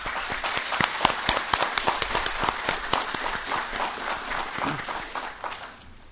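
Steady applause from an audience at a city council tribute ceremony, many hands clapping in a dense crackle that holds for several seconds before thinning and fading out at the end.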